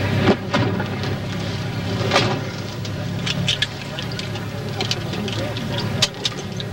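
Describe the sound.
People climbing into a car: a few close thuds and clunks of doors and seats, with rustling movement over a steady low rumble, and faint muffled voices in the background.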